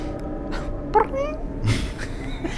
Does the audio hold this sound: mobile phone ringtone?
no